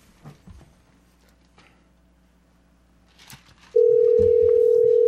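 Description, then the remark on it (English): Faint room noise and scattered soft clicks, then a steady electronic telephone ringing tone cuts in abruptly, loud and unbroken, holding through the last second or so as an outgoing call is dialed. “We're dialing.”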